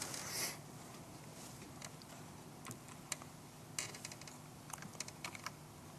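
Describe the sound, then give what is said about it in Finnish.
Irregular typing on a computer keyboard that is not responding, scattered sharp key clicks and short bursts of taps, with a soft steady hum underneath and no voices. “Näppäimistö ei tottele.”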